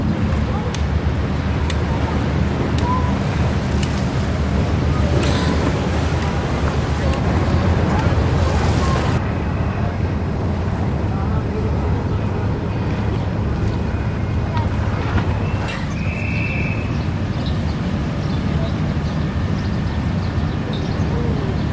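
Steady seaside ambience: wind buffets the microphone over the constant low rumble of passing boats, with a brief faint whistle-like tone drifting in near the end.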